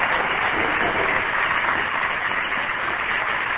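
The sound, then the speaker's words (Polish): Dense, steady clapping from a crowd fills the whole stretch without pause, a continuous wash of many hands at fairly even loudness, with no voices standing out above it. “Fajnie, że klaszczą wszyscy.”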